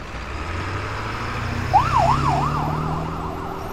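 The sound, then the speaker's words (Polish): Over a steady low vehicle rumble, ambulance sirens start wailing partway through as ambulances leave an accident scene, the rising and falling tone cycling rapidly and trailing off slightly as they pull away. “Karetki odjechały, strażacy kończyli sprzątać i zabezpieczać miejsce zdarzenia”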